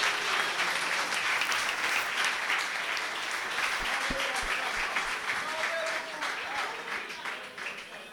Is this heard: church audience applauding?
yes